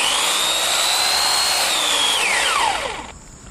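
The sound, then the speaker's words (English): An electric chainsaw whines loudly and steadily, chewing through wood, then its motor pitch drops sharply as it winds down and cuts out after its power cord is stepped on and unplugged, leaving near quiet. “Yes, yeah, the thing about an electric chainsaw too is that you have to, of course, careful not to cut your cord.”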